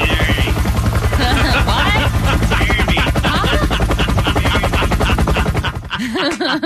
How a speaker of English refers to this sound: Gunshots in the background.